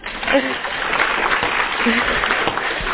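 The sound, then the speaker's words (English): A crowd claps hands loudly and steadily, a dense wash of many overlapping claps that fills the space continuously for the whole stretch, with no voices standing out above it. “If so, clap your hands as loud as you can.”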